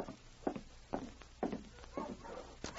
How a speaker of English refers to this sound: Hey, listen. Dogs. Yes. Wonder who it can be. I'll take a look.